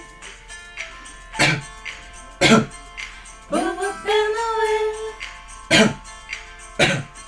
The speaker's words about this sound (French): Le Père Noël est enroué. Je crois qu'il va bientôt tousser.